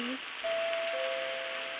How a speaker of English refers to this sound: Go ahead, honey. Ring the bell.